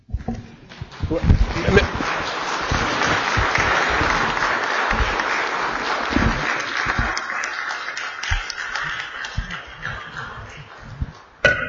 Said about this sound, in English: Members, chair will remind the members of the body that when we're in a debate, there's no applause.